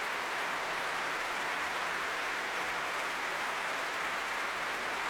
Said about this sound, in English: And finally, at last, turning to accept this huge applause for the Royal Albert Hall audience.